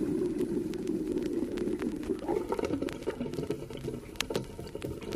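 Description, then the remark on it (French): Water gurgles and bubbles through household plumbing pipes in a steady wash of sound, with small pops and irregular ticking clicks scattered over a low, continuous rumble. “Les gargouillis des tuyauteries.”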